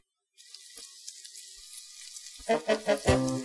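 Rolled-oat porridge burning in a pot on the kitchen stove: a steady sizzling hiss with scattered crackles, then a few loud, thick bubbling plops toward the end. No one speaks.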